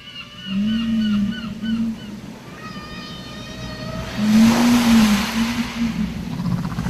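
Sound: whale song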